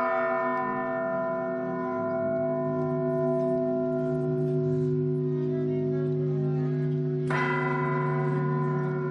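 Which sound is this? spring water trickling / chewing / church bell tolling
church bell tolling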